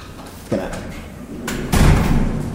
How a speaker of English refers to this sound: And now we're outside. Now we're going to close the door.